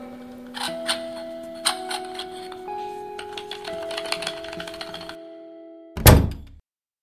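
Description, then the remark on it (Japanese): Fireworks at a summer fireworks festival near a studio burst as a series of dull thumps over steady sustained musical tones, ending with one loud, deep boom after the music cuts out. “なんと花火大会が始まっちゃいましてスタジオの近くで そう 夏ですね。”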